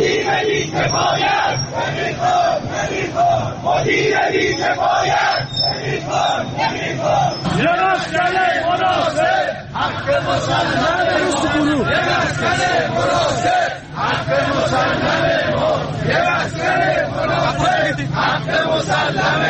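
Protesters at a rally in Tehran, Iran, demanding the dismissal of the managing director of the Tehran bus company and completion of a housing project, chant slogans together in loud, rhythmic unison, voices rising and falling in repeated bursts without pause for nearly twenty seconds.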